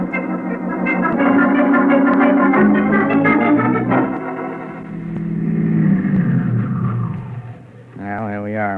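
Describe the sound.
A car engine hums and revs steadily for several seconds, its pitch rising and falling as it drives, before a voice briefly speaks near the end.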